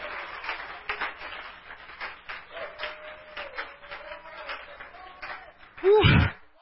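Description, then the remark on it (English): A church audience claps hands to the Lord in a steady, fairly even rhythm while a sustained tone hums underneath, ending with a sudden loud vocal shout. “Somebody clap your hands and shout to the Lord.”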